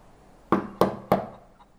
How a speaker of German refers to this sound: Und schon wieder klopft es. Ja, wie schön!